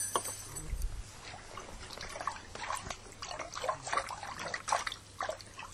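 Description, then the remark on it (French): Oars of a small floating boat, rowed by a little mouse, dip and pull through water in a steady series of soft splashes and trickles, with a faint low hum underneath and no voices. “Le bateau flottait. La petite souris ramait.”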